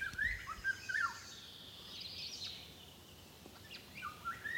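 A Eurasian golden oriole's clear whistled, flute-like song phrases with blackbird-like traits ring out repeatedly over a soft outdoor background, with a few higher chirps mixed in from other birds; no voices are heard.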